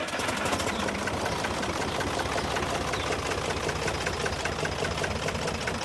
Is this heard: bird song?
no